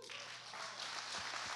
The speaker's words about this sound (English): Come on, everyone, clap your hands.